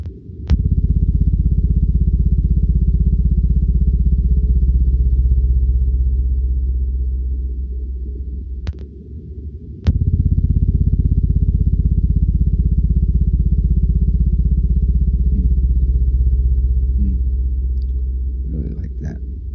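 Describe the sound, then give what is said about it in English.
A blue whale's call: a deep, sustained low-frequency moan that drones loudly for nearly twenty seconds, briefly dipping once, with a few sharp clicks breaking through. “You won't hear the lows, but let me play this low frequency of the Blue Whale.”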